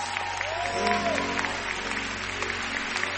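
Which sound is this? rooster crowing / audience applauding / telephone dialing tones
audience applauding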